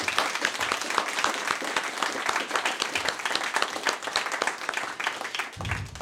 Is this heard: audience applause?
yes